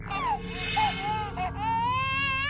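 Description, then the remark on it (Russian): A very small child, about a year old, cries desperately in drawn-out, strained wails somewhere far away at the other end of a ship, behind many doors, with brief catches of breath between them and a low hum underneath. The crying sounds distant and no one speaks. “Плакал ребенок.”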